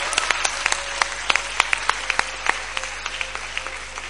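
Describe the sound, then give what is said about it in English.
A small audience claps steadily for about four seconds to encourage a performer, a scattered patter of sharp hand claps at moderate volume with no voices over it. “Why are you not clapping for her?”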